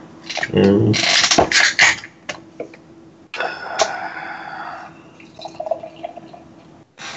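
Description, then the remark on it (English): A beer can cracks open with a sharp hiss, followed by a steady gurgling pour of beer into a glass and light fizzing that trails off into soft crackles. The beer is a hazy, pale gold drink with about a finger and a half of fine head. “So I'm going to go ahead and crack it open now.”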